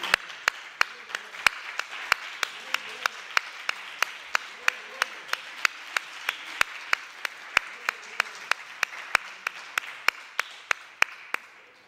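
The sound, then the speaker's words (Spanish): An audience applauds a man for his effort at the start of a talk, steadily for about twelve seconds, a dense wash of many hands clapping, with sharper individual claps standing out at a fairly even rhythm throughout. “y a mí me gustaría que los que estuviéramos aquí empezáramos con un aplauso para él, no sea cosa que luego se nos olvide.”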